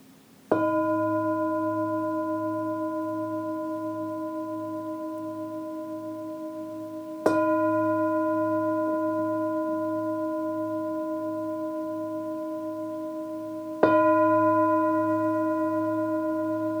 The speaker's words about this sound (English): Now you're ready to enjoy the meditative tones of the singing bowl at the beginning of each episode.